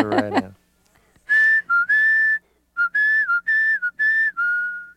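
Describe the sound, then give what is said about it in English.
A brief voice, then a whistled doorbell tune of about eight clear, steady notes in a short melody, some rising or dipping slightly, with small gaps between phrases. “Okay, so that's our song on the doorbell.”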